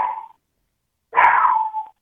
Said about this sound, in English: Whoa. That's a loud dog there. Is he just barking at the phone?